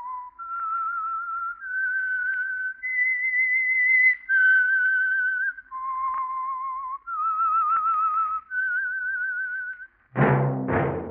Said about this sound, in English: That whistle is your invitation to listen to the Household Finance Corporation program, The Whistler.